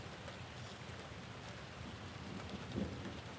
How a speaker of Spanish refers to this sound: Y así fue que cuando el colibrí decidió regresar al pueblo con los niños, las nubes vinieron tras él y, cansadas de tanto viaje, descargaron su lluvia generosa sobre la tierra seca del pueblo.